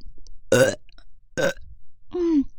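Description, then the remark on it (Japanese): Three light burps close to the mic, spaced about a second apart, the last one longer and more drawn-out with a throaty tone; no talking around them. “軽いゲップが出た。”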